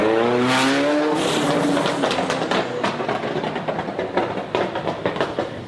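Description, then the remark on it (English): A powerful supercar engine of the Istanbul traffic police revs hard and roars, followed by loud rushing noise and sharp crackling bursts, like tires screeching as the car speeds off. “Istanbul traffic police now boast some of the world's flashiest supercars, including Ferraris, Bentleys and Lexus.”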